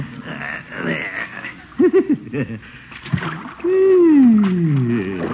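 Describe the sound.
Sloshing water splashes in irregular bursts as a man, shoes and socks off, wades through shallow lake water at a picnic, letting out pleased exclamations and a long sliding hum over the splashing.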